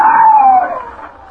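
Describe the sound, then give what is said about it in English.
A single loud scream from a man in a room off the balcony at the rear of a cafe, a sustained high cry that slides slowly downward in pitch and trails off as it fades, with no talking. “Every hour, the noise increased, but suddenly, from one of the rooms that opened off the balcony at the rear of the cafe, a man's scream rang out above the good-natured bedlam.”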